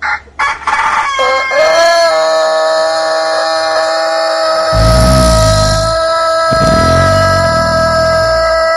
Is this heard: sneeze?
no